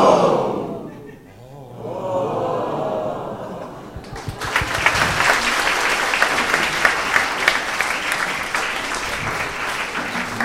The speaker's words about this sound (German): Und dann, staunen wir zu bucken und am Schluss klatschen wir noch.